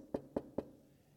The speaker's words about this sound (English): So imagine with me that you go home this afternoon and you hear a knock on the door.